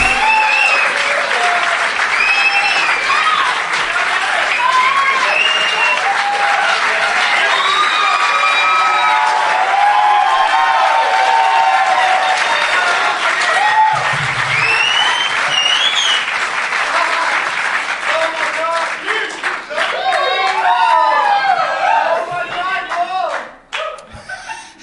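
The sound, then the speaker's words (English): A large live audience at a Doug Loves Movies taping at the Tom Lee Music Hall in Vancouver, BC, Canada, part of the Vancouver Comedy Festival, applauds and cheers loudly and steadily for over twenty seconds, with whistles and whoops rising above the clapping before it tapers off at the very end. “Fired up crowd.”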